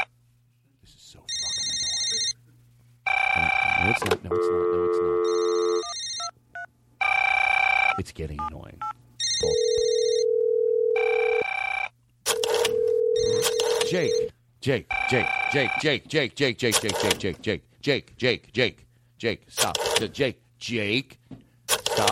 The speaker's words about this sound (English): British phones have a different tone when you call them.